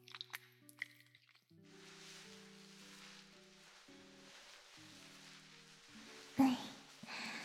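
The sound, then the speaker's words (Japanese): Wet squishing of shampoo being lathered into a person's hair during a head spa, a steady soft frothy rubbing that runs for several seconds over gentle background music, ending in a brief louder squelch. “はい、泡立ててくね。”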